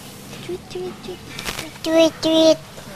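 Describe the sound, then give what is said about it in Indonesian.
A voice mimics a bird call: two loud, sustained, tonal hoots in quick succession near the end, after a few softer, short vocal sounds. “Bunyinya gimana, burung?”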